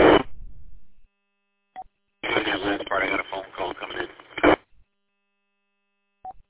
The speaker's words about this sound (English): That last part, I got a phone call coming in.